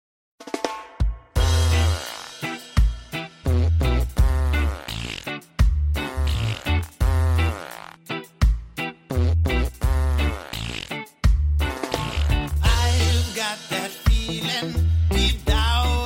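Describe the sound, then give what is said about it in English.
Fart sound effects played by the Alexa voice-assistant skill Mr. Farts: a quick run of loud, raspy bursts, some with wobbling pitch, set over a steady thumping bass beat, filling the whole stretch with only brief gaps. “Alexa, play Mr. Farts. Now playing Mr. Farts.”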